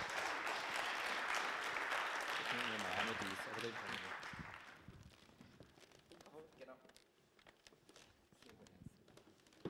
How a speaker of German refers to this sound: Gebt ihnen einen herzlichen Applaus